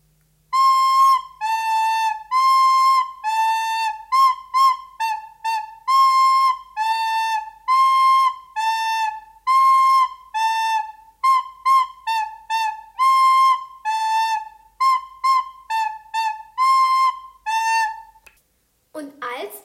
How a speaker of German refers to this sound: Und als das Geld von Rat und Bürgerschaft der Stadt ihm zugesichert war, zog der Mann ein Pfeifchen hervor, ging durch die Gassen und pfiff eine Melodie.